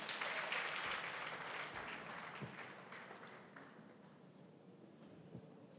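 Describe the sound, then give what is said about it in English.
An audience claps hands in a dense, steady burst of applause that starts loud and gradually thins and softens over several seconds, with no voices over it. “Please clap your hands.”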